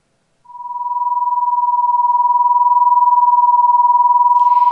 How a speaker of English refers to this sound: If the two frequencies are different, but fairly close, instead of a unison sound, we hear a beating sound, often described as a wobbly or a wah, wah, wah sound.